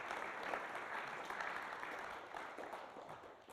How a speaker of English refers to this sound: Let's give our grateful volunteer a round of applause.